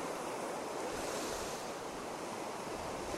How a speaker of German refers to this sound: Es geht ein leichter Wind. Die Wellen sind nicht sehr hoch. Und mit sich bringen sie Tang, Muscheln, Spuren des Lebens im Meer.